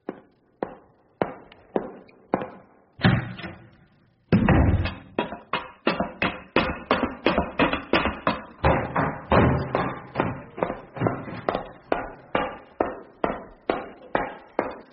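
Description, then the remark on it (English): A performer at an audition vocally imitates footsteps: a series of sharp, thudding steps, slow and spaced at first, then quickening into a steady, brisk run of louder clomps with no talking. “Yes, that's very good, but I'm afraid we're not really looking for people who can do footstep impressions.”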